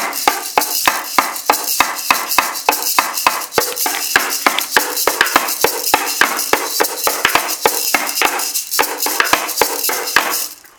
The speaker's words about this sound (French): Et les rythmes en 7 temps, et là c'est vraiment pour me la péter parce que ça commence à devenir chaud.